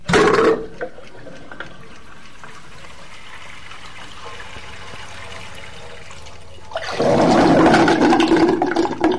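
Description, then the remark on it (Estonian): Water drains out of a clogged pipe as the water is let out and a clump of hair causing the blockage is removed: a brief splashing rush, then a quieter trickling stretch, before a louder, sustained gush of pouring water returns near the end. No one speaks. “Winston läskis torust vee välja ja kõrvaldas vastikustundega ummistuse põhjustanud juukse tuusti.”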